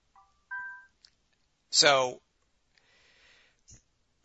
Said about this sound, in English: Sorry for that. I'll put my phone on silent.